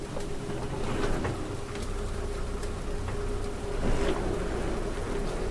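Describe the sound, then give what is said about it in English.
A boat engine, started and running while setting out on open water, drones steadily, a constant low hum with a faint tonal whine, mixed with the rushing wash of water. No one speaks. “start the engine.”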